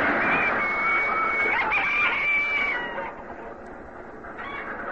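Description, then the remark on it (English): Chickens squawk and cackle loudly for several seconds over the steady roar of a passing train, then the noise eases off and a last squawk rises near the end. “We were still at it about an hour later when a train went by.”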